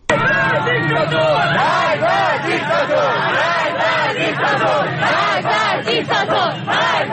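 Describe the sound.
A large crowd of university students chants in unison at a protest at the University of Tehran on Monday, 27 Aban 1398, loud rhythmic shouted phrases rising and falling continuously over a dense background of voices.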